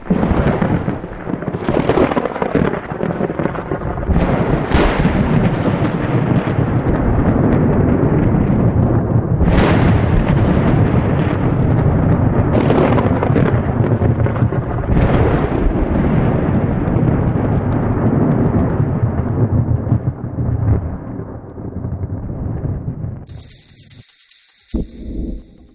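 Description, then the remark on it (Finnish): Loud, sustained thunder rumbles through a storm, with deep rolling booms and several sharp cracks swelling over about twenty seconds before fading out. No voices are heard. “Ja komea ukonilma alkoi kaivata jo.”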